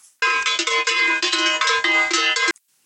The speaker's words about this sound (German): So, ich klingel mal eben.